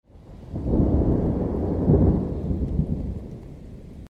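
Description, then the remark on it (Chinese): A long, deep roll of thunder in the sky on a March spring day, the day called Jingzhe, swells up quickly and rumbles steadily for a few seconds, loud and heavy, with a faint rain-like hiss beneath it and no voices. “突然，天空中传来一阵雷声，小动物们好像接到冲锋的命令一样，纷纷从土里钻了出来。”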